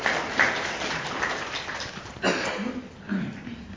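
An audience applauds with a dense, crackling patter of many hands clapping at once, steady and fairly loud for a few seconds, with a voice briefly rising over the clapping near the end.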